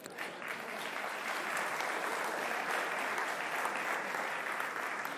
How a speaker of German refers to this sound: Applaus.